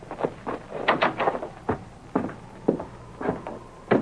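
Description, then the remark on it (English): Someone knocks at a back door in a loose, uneven series of raps, some coming in quick pairs, moderately loud, with no voices over them. “Who in the world's coming to the back door?”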